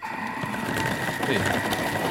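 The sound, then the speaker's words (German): A kitchen chopper whirs steadily as it chops vegetables while making a soup, a loud, continuous motorized buzz with a bright mechanical hum and gritty rattling throughout, no voices. “Jetzt zerkleinere ich das.”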